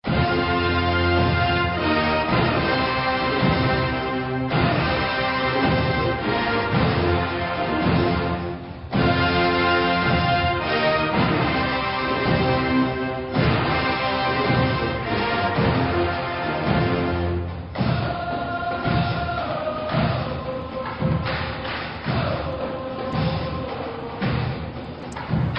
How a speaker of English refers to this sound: there it is. You hear it. The Tomahawk chant for Florida State Seminoles.